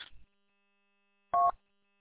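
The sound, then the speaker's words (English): A single short electronic telephone tone from a reminder app that calls like a phone call when ignored, a clear two-pitched beep lasting a fraction of a second, heard alone after a brief muffled noise and silence. “At first it barks at me, and if I ignore it, 15 minutes later it calls me like a phone call.”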